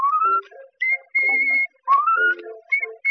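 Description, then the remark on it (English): A girl whistles a lilting tune, sustained bright notes gliding upward and holding steady, broken by brief pauses between phrases, with no talking. “Ah, girl, taking a chance when she whistles like this.”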